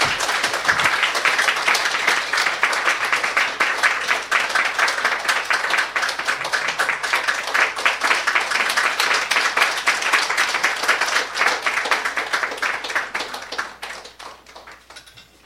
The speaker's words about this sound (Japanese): 励ましの拍手をお願いします。